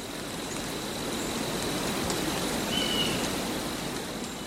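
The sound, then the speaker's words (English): Gentle rain falls steadily in a pine forest, a soft, even hiss of drops that holds at a constant moderate level throughout, with no voices; a recording from side two of an album in a series of nature sound albums. “And side two was gentle rain in a pine forest.”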